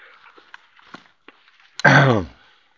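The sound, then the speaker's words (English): A single loud cough with a rough throat-clearing quality bursts out after a couple of seconds of faint breaths and small clicks, then cuts off abruptly. “I'm almost done coughing”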